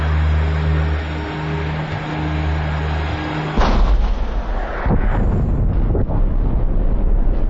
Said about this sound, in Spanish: La expedición contempla nuevas explosiones. El respiradero superior comienza a lanzar ceniza.